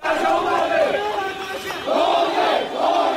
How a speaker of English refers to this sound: The protests aren't just continuing, they're growing, with tens of thousands turning out in Yangon, shouting anti-military slogans and demanding the release of Aung San Suu Kyi and others detained since last Monday.